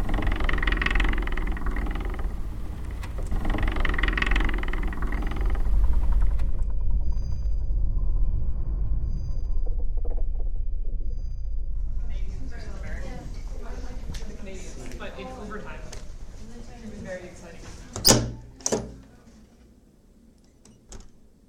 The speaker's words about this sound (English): One of the most fascinating sounds that we came across was actually the Schmidt telescope. At the very, very end of the opening of it, it has this kind of purring kind of sound, and I'll just play you that now.